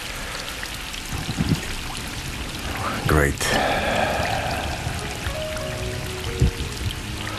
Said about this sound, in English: The guy sits on the radio and plays rain.